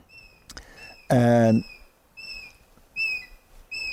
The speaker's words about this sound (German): Wir stimmen diesem kleinen Vogel zu. Da fliegt er.